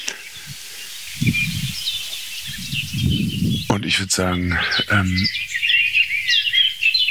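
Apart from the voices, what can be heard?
song thrush scolding calls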